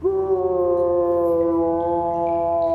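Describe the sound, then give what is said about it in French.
A draft of wind howls in one long, loud, steady tone, rich and slightly hollow, its pitch holding almost level throughout with no voices present. “Bien sûr, c'est un courant d'air.”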